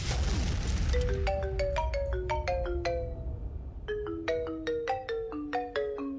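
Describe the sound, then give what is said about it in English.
A telephone rings for an incoming caller with a bright, melodic electronic ringtone: two quick bursts of chiming tones separated by a short pause, loud with no voices. “You have a caller.”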